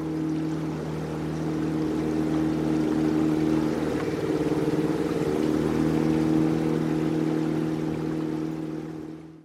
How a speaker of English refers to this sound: Across the stream, Arthur Smith and Joseph DeLue launched a small motorboat to assist with the search.